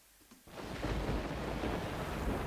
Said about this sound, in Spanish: Y se escucha esta sintonía. Siempre me parece que se escucha un poquito bajito ese trueno. Tenemos que encontrar un trueno más fuerte. Más potente.